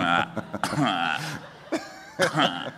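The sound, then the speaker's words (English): A few muffled, suppressed coughs break out in short bursts, fairly loud, mixed with throaty vocal sounds as someone tries to hold them back. “I want to cough, but I really don't want to.”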